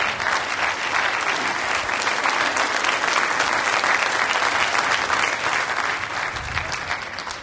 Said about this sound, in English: Thank you. Will you clap for them? Amen.